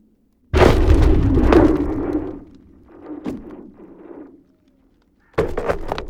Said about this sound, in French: où la glace se retrouve comprimée par des berges abruptes ou des zones rocheuses. Ces tensions vont se libérer et ça va provoquer des détonations qui sont liées à des fracturations très brèves sur des longues distances.